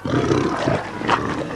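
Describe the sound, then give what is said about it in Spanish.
A huge warg lets out a loud snarling roar during a battle, rumbling on for a second and a half without pause, with no voices over it. “Con su hacha espera a un huargo.”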